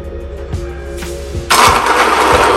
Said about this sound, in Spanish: Y yo voy a colocar aquí unas 8 nueces para triturar. A continuación vamos a mezclar todo esto. Yo tengo aquí, con mi ayuda de la máquina de inmersión o batidora de inmersión.